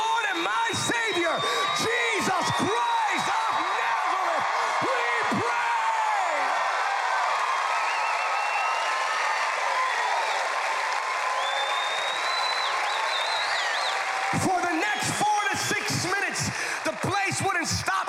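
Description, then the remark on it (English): A large crowd shouts and cheers continuously in reaction to a prayer, a dense, loud roar of voices with bursts of clapping and whoops rising at the start and again near the end. “Shouting. They couldn't stop.”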